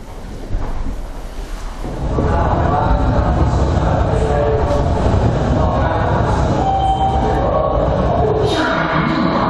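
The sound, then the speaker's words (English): A subway train roars into a busy underground station at a junction between two subway intersections, its loud rumble swelling after a quieter start and holding steady with metallic squeals, while faint crowd voices murmur beneath. “So I thought I'd do an experiment, but I would stand in a busy junction between two subway intersections and see if anybody would crash into me.”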